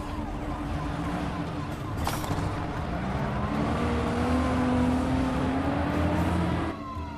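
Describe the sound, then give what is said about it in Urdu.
A car engine roars, its pitch climbing and sliding as it accelerates hard, with a steady rush of road noise throughout and a brief sharp knock near the start. “یا مولا عباس, اس طرح کیوں گاڑی چلا رہا ہے؟”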